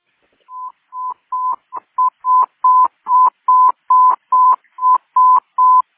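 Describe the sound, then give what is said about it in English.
Dispatch tones paging out a station for a fall victim at a supportive living residence: a loud, steady run of about fourteen short electronic beeps at one pitch, evenly spaced and picking up slightly in pace, with no voices. “Can you please phone out 943 for manpower for this location?”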